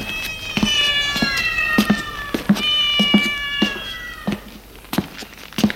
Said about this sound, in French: En passant devant un appartement, passe un chat qui miaule.